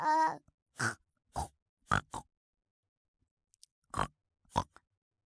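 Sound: person imitating pig grunts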